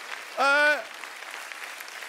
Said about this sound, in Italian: Fate un applauso, se volete farlo, fatelo!